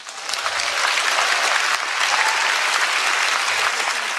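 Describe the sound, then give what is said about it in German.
Sustained applause from a large audience of new Harvard graduates in Boston after a speech by the German Chancellor, a dense, even wash of many hands clapping at steady loudness for several seconds without any voices standing out. “Da hat sich die Kanzlerin den Applaus abgeholt.”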